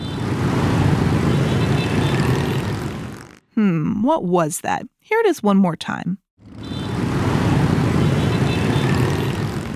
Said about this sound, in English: That sound is specifically the motorbikes in Ho Chi Minh, a city in the country of Vietnam.